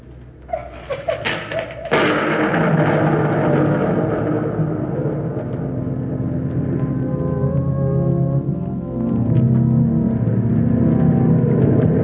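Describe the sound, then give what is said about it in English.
Booming ocean surf swells in abruptly after a quieter opening of scattered thumps, then holds as a loud, steady, deep roar with a rough rumbling texture. “The surf booms in. It is no longer silent.”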